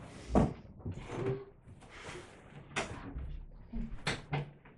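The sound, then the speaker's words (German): A door being closed, with a sharp thump early on followed by a couple more knocks and rattles of handling over a few seconds, faint murmuring in the background. “Könntest du die Türe mal zumachen?”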